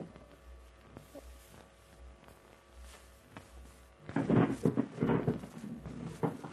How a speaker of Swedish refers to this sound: Det är dörren.